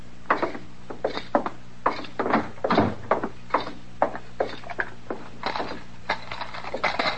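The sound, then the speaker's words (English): A bunch of keys rattles and clanks as a key works a lock, with a steady series of metallic clicks and clunks over several seconds and no voices. “Dillon, look at that clutch of keys.”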